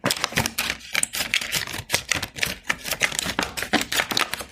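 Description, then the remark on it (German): Scissors snip steadily through a stiff milk carton, cutting a piece off the top, a run of crisp, dry clicks and crunches repeating at an even pace for several seconds, with no voices. “Erstmal schneidet ihr oben ein Stückchen was ab.”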